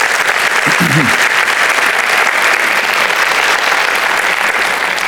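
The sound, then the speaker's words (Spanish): An audience applauds God steadily, a dense, loud wash of clapping that fills the whole clip, with a brief voice rising through it near the start. “Y eso es exactamente un aplauso a Dios, que Él se lo merece.”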